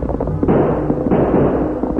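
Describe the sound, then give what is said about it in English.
A rapid volley of loud revolver gunshots fired by Sandy, who turns in the saddle while fleeing on horseback down a trail, in a Lone Ranger drama. Sharp bangs blur into a continuous booming rumble, with two especially heavy blasts standing out. No one speaks. “Sandy heard the famous cry, and panic-stricken turned in the saddle and fired.”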